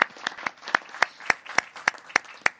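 Applause after a speaker is thanked: a steady, evenly spaced run of sharp claps, moderately loud and crisp, sounding like a small group clapping with no talk over it.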